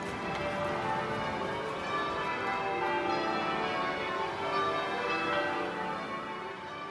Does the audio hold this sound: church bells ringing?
yes